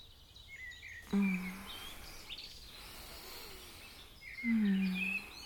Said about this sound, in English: Waking up to the sound of the birds.